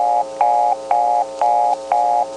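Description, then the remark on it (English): A steppy telephone reorder tone from selector equipment: a steady mid-pitched buzz pulsing on and off about twice a second, each burst starting with a sharp click, with no voices. “Yes, the reorder came from the touchtone converter itself, and you can actually tell because from the selectors it sounds like this.”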